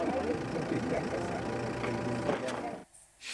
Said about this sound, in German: Die modernen Autos funktionieren bei uns nicht. Die vertragen Staub und Hitze einfach nicht. Der alte Daimler läuft und läuft und läuft, egal wie er aussieht.